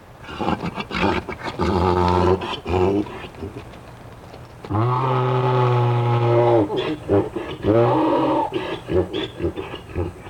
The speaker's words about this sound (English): And after a while, we brought him back into view about half a mile away. And sure enough, just as his buddy disappeared out of sight again, our recording mule called out to him, we got our performance.